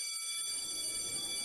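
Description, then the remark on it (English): A school bell rings continuously, a steady, shrill electric tone holding one pitch for the full moment over a soft background hiss, with no voices. “The bell is about to go in 3, 2, 1.”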